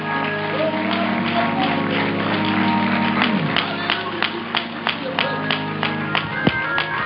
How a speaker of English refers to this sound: Clap your hands one more time before you're seated.